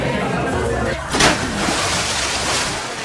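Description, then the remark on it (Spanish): A single sudden splash as a student falls from a boat into icy water during a school outdoor paddling activity, breaking through a steady wash of rushing water and boat noise before the churning settles back. “¡Alumno al agua!”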